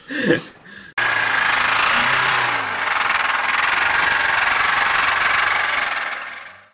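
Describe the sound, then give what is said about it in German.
A brief voice, then a car engine seizing from piston seizure: a loud, harsh, continuous grinding roar lasting about six seconds, with a steady rattling texture that dips briefly and trails off at the end. “Habt ihr schon mal ein Kolbenfresser-Geräusch gehört?”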